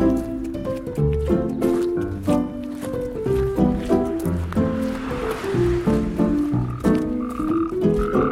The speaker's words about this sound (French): Alors regardez, il a un iris doré, une grande pupille noire horizontale, c'est notre crapaud